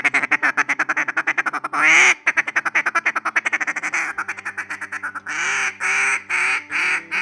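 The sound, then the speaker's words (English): A duck call blown loud and clear on opening day of duck season, running quick strings of rapid quacks, then stretching into a few longer, drawn-out quacks near the end, with no one talking. “yeah, we're all jacked up about opening day of duck season as well. Hell, I'm even wearing my calls today.”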